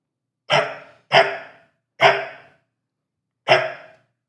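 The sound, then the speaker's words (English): A person imitates a dog barking into a phone to test its sound recognition, with four loud barks, three in quick succession and a final one after a short pause, with silence in between and no other talk. “A dog sound has been recognized that maybe a dog me!”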